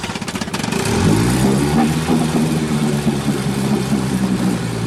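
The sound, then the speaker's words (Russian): An old man's old, oil-spitting motorboat engine coughs into life with a few sputters, then settles into a loud, steady, rough chugging drone as the boat slowly pulls away from the shore, with no voices. “Завел свой старый, харкающий маслом катер и неспешно отчалил от берега.”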